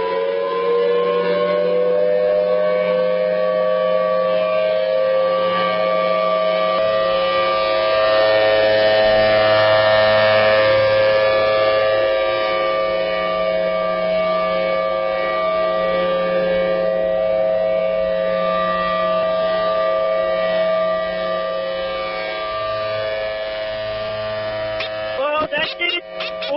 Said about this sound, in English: Oh, no, the sirens are frightening the children here.